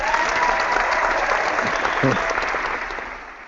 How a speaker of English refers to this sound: that's a round of applause for a former Poke.